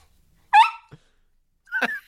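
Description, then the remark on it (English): A small dog sitting on a man's lap makes two brief vocal noises, a short whiny yip followed a second later by a rougher grunt, with silence around them and no talking. “But now we know that he does the show with the dog on his lap.”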